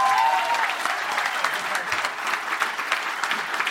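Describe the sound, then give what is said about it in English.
An audience claps steadily for several seconds for the day's guests, a dense, even patter of many hands with no pauses, holding a fairly constant loudness throughout, while a faint whistle briefly rises at the start. “Give you a round of applause to all our guests today.”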